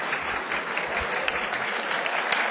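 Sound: long sustained applause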